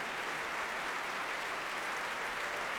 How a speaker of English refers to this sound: Barenboim accepts his applause from another sellout Royal Albert Hall for this Beethoven series.